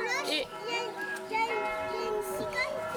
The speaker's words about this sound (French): Et qu'est-ce qu'on entend? Les cloches. Oh, c'est les cloches. Et ça veut dire qu'il est quelle heure? 10h. 11h. 11h.